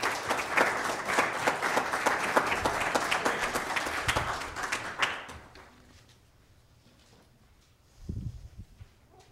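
An audience applauds with dense, steady clapping for about five seconds, then it fades out into quiet, followed by a brief low thump or rustle near the end.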